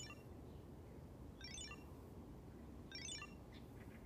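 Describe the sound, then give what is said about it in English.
Two short bursts of bright, trilling ringing from a communicator in a backpack, about a second and a half apart, break the silence of a meditation circle over a low, steady background rumble; no one speaks. “The silence of the meditation circle is broken by a sharp ringing sound coming from your backpack.”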